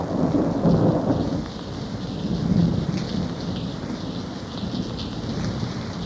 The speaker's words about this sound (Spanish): No es que me importara mucho que lloviera, porque ya se sabe que el exceso de sol perjudica la pigmentación de la piel.